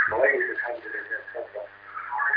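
Television sound from a caller's TV carries tinny and narrow over a phone line into a call-in program, a continuous stream of broadcast voices echoing faintly, moderately loud and steady throughout with no clear pauses.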